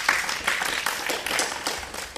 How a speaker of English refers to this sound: Yeah, please. Big round of applause.